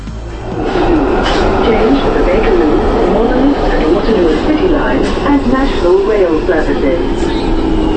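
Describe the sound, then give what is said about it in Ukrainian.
A loud, steady rumble of a London Underground train in motion, with a voice talking over the constant roar throughout. “Звуки метро схожі, але не однакові у різних містах.”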